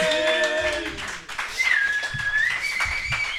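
A crowd cheers and claps steadily, with shrill whistles rising and sliding above the dense, continuous applause, fairly loud throughout with a brief dip about a second in.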